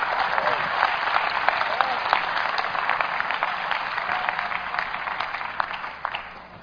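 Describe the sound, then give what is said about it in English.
An audience claps their hands in sustained, dense applause, a steady wash of many overlapping claps with a few sharper ones standing out, fading slightly toward the end. “Clap your hands, all you seed givers, and become fruit.”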